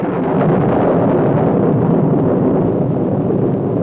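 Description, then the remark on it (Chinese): A loud, steady roar of heavy rain mixed with deep rolling thunder in the dry season, continuous throughout with no pauses and no voices. “说完，撒母耳就求告上帝，结果真的就打雷下雨。”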